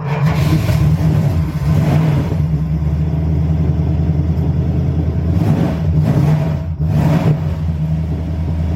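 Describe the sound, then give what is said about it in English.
The V8 engine of a black 1970 Dodge Coronet RT with an automatic transmission rumbles loudly, a deep steady idle broken by throaty revs at the start and again near the end, with no talking. “Fire it up and see what we got.”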